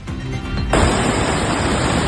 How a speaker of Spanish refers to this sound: Así suena hasta ahora el río Picueso, desbordado a su paso por la localidad de Sotalvo, en Ávila.